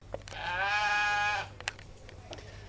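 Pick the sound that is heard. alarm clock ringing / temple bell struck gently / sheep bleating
sheep bleating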